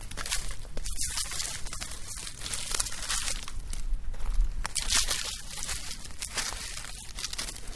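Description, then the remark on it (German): Steady crackling and crinkling of dry fallen leaves being gathered and shuffled while pine cones and twigs are sorted out, with irregular rustling bursts and soft crunches continuing throughout, no voices. “Also nochmal das Ganze abbauen, Laub sammeln und Tannenzapfen und Zweige aussortieren und dann alles wieder aufbauen.”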